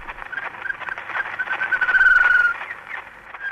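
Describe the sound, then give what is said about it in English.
A faint, sustained bird whistle rises out of thick crackle and hiss, with the tinny, narrow sound of a very old mechanical recording: the first bird recording, made in 1889 on a wax cylinder by Ludwig Koch. No one speaks. “And in 1889, recorded the first bird.”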